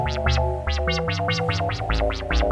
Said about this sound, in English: Okay, and now let's hear that. Yeah, at the moment we just have a sine wave coming out of those oscillators, so that's not that interesting.